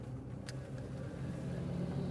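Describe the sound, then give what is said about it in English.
An ice cream truck passes, its engine a steady low rumble that swells slightly as it goes by, with no voices present. “That was the ice cream truck, in case you were wondering.”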